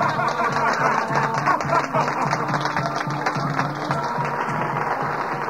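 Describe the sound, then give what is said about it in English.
Wild, drunken guests clap loudly and steadily after Salome's dance for King Herod, with rowdy laughter and cheering voices mixed into the dense, continuous wash of applause for the full few seconds. “The wild, drunken guests applauded loudly.”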